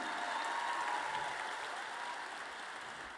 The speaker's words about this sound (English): Man, round of applause for tonight. This is so rad.